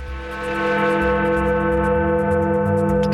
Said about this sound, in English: Have we got that Big Ben clip again? Have you got that Big Ben clip? Because with this music under it, I think it just gives.